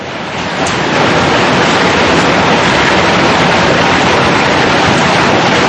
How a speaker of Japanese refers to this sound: あの、たった今ですね、ものすごい粒の雨がバチバチって音を立てて、あの、襲いかかってるんですけど、あの、僕とりあえず無事です。 それ、雨粒の音？ 雨粒の音です、これ、あの。